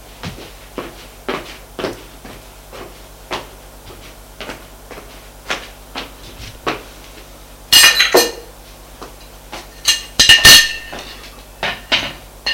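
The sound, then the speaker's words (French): Knocking on a door: a long run of sharp, evenly spaced raps, broken twice by louder, heavier bursts of banging, with no voices. “On frappe à la porte.”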